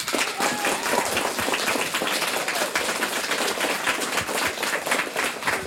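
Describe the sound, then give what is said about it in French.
Sustained applause from an audience for two CM1 schoolchildren who are contestants in a quiz game, a dense, steady patter of many hands clapping at once, fairly loud and even throughout without any voices on top. “et on les applaudit.”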